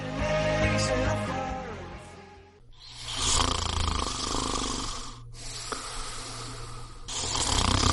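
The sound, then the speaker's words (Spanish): A person snores loudly, each long rasping, wheezy breath rising and falling in a slow rhythm, with brief pauses between snores and no talking. “Hay una solución más civilizada para acabar con los ronquidos y la apnea del sueño.”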